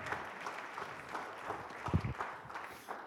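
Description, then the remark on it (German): An audience at a church service applauds steadily for about three seconds for a couple who lead a Bible study group, a dense wash of clapping hands at moderate volume with no one speaking over it. “Sie haben einen Bibelhauskreis. Ihnen gibt auch einen Applaus.”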